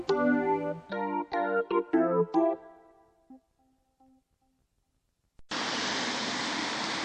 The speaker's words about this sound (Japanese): 今日も冷たい雨が滴る東京地方でございますが